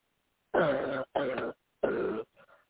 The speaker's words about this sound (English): cough. Cough it. Every bit of it.